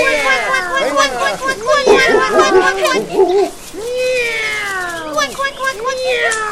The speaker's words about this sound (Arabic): ابتعدي عنك، ابتعدي أيتها القطة الشريرة، هيا ابتعدي.